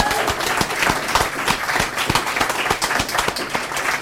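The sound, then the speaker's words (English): A crowd applauds a poet after a poem reading, many hands clapping in a dense, irregular patter that stays fairly loud and even throughout, with no voices standing out. “Let's give him a hand.”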